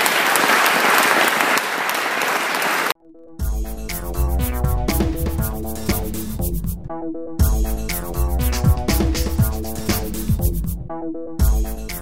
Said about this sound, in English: So, round of applause. Thank you very much.